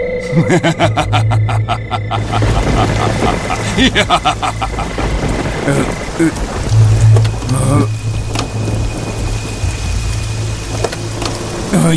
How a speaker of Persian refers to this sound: نمیدونستم قرار بارون نمیاد. خونه من همیشه بارون میاد، اینطوری تأثیر خاصی داره. سالا قبل نصبش کردم، یه ثانیه هم بدون اون نمیتونم بخوابم.